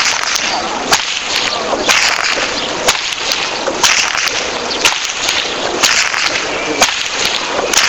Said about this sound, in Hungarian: Az ostor csattogtatás ugyan nem tőle származik